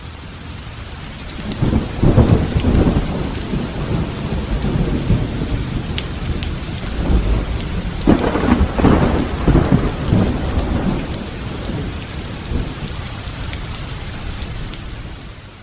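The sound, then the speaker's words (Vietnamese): Heavy rain pours down steadily while deep rolls of thunder rumble through, swelling loudest early on and again midway before easing to a constant downpour. No voices are present. “Một trận bão ác liệt khác lại đổ ập xuống.”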